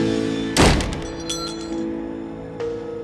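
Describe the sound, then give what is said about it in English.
An entryway door slams with a single heavy, booming thud, knocking a small brass mezuzah case onto the floor, followed by brief light rattles and a clink, then a softer knock a couple of seconds later. No one speaks. “Fania stepped into the entryway and slammed the door behind her, knocking the mezuzah onto the floor.”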